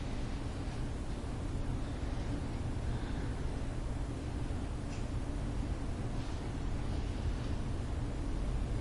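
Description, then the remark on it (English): A steady, unbroken air conditioning hum with a deep low rumble and a soft hiss on top, holding the same moderate level throughout with no voices or other sounds. “You may notice also you can hear the air conditioning in the room.”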